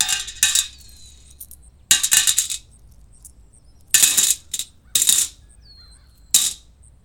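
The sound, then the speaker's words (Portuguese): Coins are dropped by passersby into a small bowl beside Bartimaeus, a blind beggar, in several separate bursts, each a quick cluster of bright metallic clinks with a short ringing tail, with quiet pauses between. “Ele pedia às pessoas que lhe dessem moedas. Elas colocavam-nas numa pequena tigela ao seu lado.”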